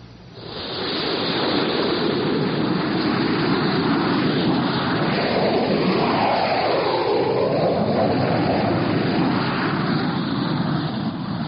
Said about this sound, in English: Six jet fighters were taking off from Hank Field